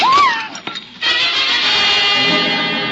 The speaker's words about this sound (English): The jug. It's broken. The precious water is gone.